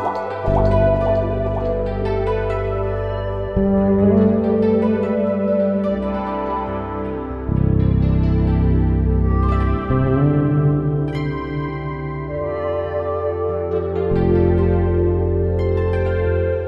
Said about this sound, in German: Indrischer stieg also ins Wasser, holte tief Luft und tauchte mit der Schlange in den Teich hinab.